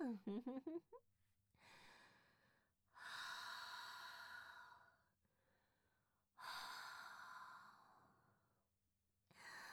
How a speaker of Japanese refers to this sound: あったかくてじっとりした吐息がまとわりついてきてやばい？